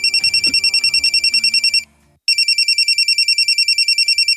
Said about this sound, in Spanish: A ver, que suena el teléfono.